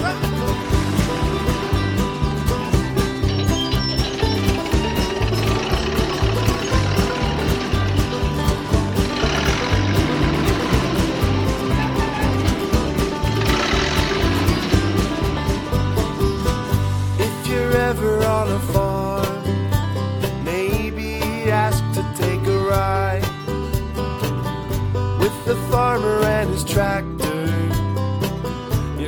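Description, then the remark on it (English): A big tractor engine chugs steadily, a loud, continuous rumble with a regular pulsing beat that holds for about half a minute without anyone speaking. “They have great big engines, and this is what they sound like.”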